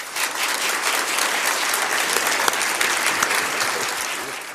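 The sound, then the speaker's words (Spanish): Steady, sustained applause from an audience greeting the news that Arturo Ros, auxiliary bishop of Valencia, has been appointed bishop of Santander; a dense crackle of many hands clapping at an even loudness throughout, with no voices standing out. “Nos sumamos también a los aplausos y nuestra enhorabuena a don Arturo Ros, nuestro obispo auxiliar de Valencia, ahora obispo electo de Santander.”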